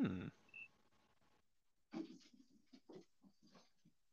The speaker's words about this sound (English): Also, I feel like I'm hearing the Hound of the Baskervilles outside, but some of the dogs in the house are wrestling or something.